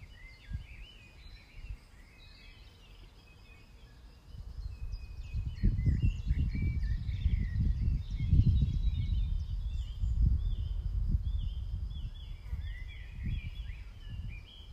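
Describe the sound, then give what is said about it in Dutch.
Many birds chirp and warble continuously over a steady outdoor ambience, with a low wind-like rumble swelling in after a few seconds. No one speaks. “En luister maar even lekker naar de vogels en de omgevingsgeluiden.”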